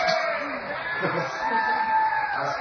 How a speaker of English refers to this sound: See, they're all cheering.